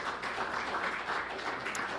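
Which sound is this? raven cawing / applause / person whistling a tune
applause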